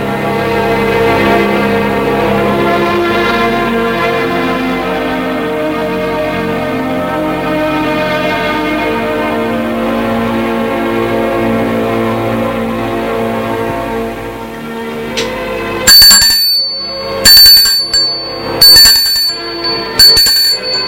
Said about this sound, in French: On sonne à la porte. Pas envie d'aller ouvrir. L'on sonne une deuxième fois.